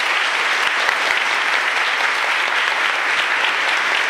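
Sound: audience applauding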